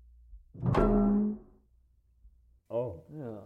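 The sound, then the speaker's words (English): A sheriff, with police present, opens trailer doors with a loud metallic thunk and a ringing, creaky groan that fades over about a second. After a short pause, a brief voice follows. “Cautiously, Sheriff Powell took the lead and opened up the trailer doors.”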